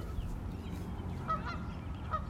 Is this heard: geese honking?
yes